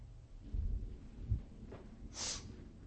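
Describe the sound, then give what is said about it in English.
Low, muffled rumbles of thunder roll in a couple of deep bursts, followed by a brief hissy swell, all fairly quiet with no voices. “And as the thunder rocked and the earthquake began, we can hear a triumphant sound coming from that center cross.”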